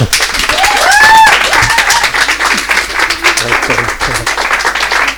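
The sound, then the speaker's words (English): An audience in a church claps again, longer and louder, for two people being welcomed: sustained, dense applause, steady and loud throughout, with a few cheering whoops rising briefly near the start. “we had to clap longer and louder. So there's two of them here. So again, please.”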